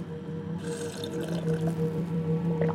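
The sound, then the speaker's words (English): Wet liquid sounds of someone drinking water, with soft sloshing and dripping running continuously for a few seconds over a low steady hum, with no talking. “Just drink it. This water was brought from the region of the Sea of Horus.”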